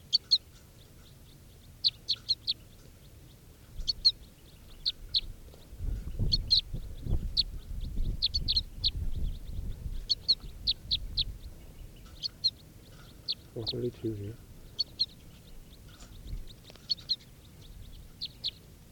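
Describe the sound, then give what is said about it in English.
Crossbill begging calls: thin, high chirps repeated steadily in quick clusters of two to four throughout, with a low rumbling background noise swelling midway. No one speaks. “And these are the begging calls of, oh, I got a cross bill of the net now.”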